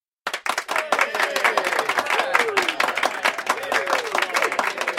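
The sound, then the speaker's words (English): A small group of pilots in a restaurant bursts into steady, dense clapping mixed with excited cheering and whooping voices, sustained for several seconds, after watching a paper aeroplane fly across the room. “The pilots clapped and cheered.”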